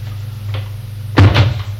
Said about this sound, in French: va à l'armoire. L'ouvre.